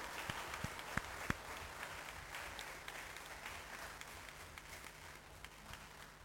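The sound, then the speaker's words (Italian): Participants in a meeting session applaud one another steadily, many hands clapping in a dense, continuous patter with a few sharper individual claps standing out near the start, then gradually thinning slightly toward the end. “Direi che a questo punto possiamo, come dire, farci un applauso reciproco e augurare buon lavoro.”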